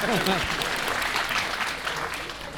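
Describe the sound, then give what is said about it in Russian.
An audience claps steadily, a dense crackle of many hands at a moderate level, with a brief voice at the very start. “Ну, хоть кто-нибудь поаплодируйте, вы аплодировали ему.”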